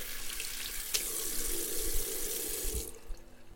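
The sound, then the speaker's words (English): A faucet runs in a steady hiss of water into a sink as someone washes their hands with soap, then shuts off abruptly near the end, leaving quiet. “I just washed my hands with soap.”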